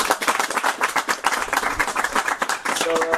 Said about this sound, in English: So, can we just give a large round of applause for his appreciation?